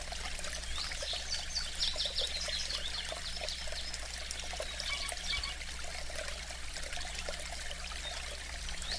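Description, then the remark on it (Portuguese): A small stream trickles and burbles steadily, a continuous bright wash of flowing water with faint bird chirps scattered over it. No one speaks. “Sinta-se numa floresta bonita, com um córrego ao seu lado, um rio pequeno de águas claras e bonitas.”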